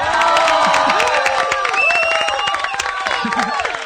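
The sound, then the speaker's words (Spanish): A crowd on Radio Nacional in Argentina applauds loudly and steadily for China Cosentino, with dense, rapid clapping, while whoops and cheering voices rise and fall over it throughout. “Pero felicitaciones, Chinita, un aplauso enorme, de pie, de toda la Argentina.”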